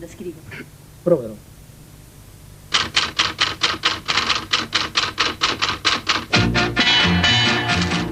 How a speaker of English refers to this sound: Many people probably think I'm capricious, putting sounds like typewriters and tin cans into music. I do it to give an element of actuality. Maestro, may we hear the typewriter?